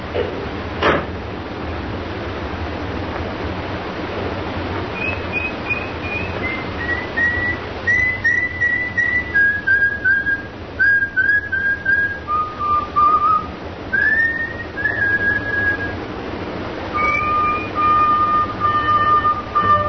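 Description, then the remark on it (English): A person whistles a slow, wandering tune of long held notes, clear, as an all-clear signal after getting into the street safely, over a steady low background rumble with no one talking. “And when you get into the street safely, don't forget to whistle.”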